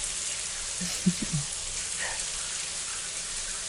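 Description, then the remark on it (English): Steady hiss of a running shower spraying water fills the whole recording at moderate level, with a few faint low knocks early on and no talking. “Shower sounds back on.”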